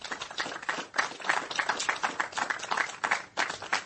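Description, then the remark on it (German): A crowd applauds steadily, many hands clapping at once in a dense, continuous patter that holds at a moderate level throughout, with no voices rising above it. The applause is for the volunteers who run a technical museum and who accompanied its construction work. “Und da immer einen kräftigen Applaus an alle, die dieses geschafft haben und auch uns begleitet haben bei den Baumaßnahmen.”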